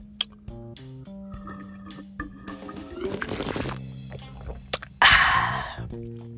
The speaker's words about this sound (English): Maybe if I sip on some of this. Y'all like when I be sipping on that stuff? Some apple juice. Ain't nothing like some cold apple juice. Hold on. I can't even sip on it.